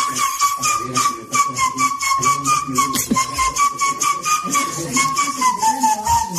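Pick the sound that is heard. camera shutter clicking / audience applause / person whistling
person whistling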